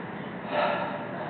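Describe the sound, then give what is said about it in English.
An airy breath drawn and released in one soft swell of noise, rising briefly in the middle and fading back, with no talking: a person breathing out and breathing in. “It's sort of like breathing out and breathing in.”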